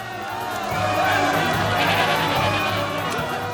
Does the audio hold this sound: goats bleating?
yes